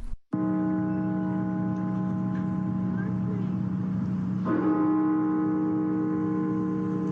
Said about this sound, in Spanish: Y esta semana las campanas sonaron nuevamente en la Catedral Nacional de Washington para marcar la pérdida de unas 800,000 vidas en Estados Unidos a causa del COVID-19.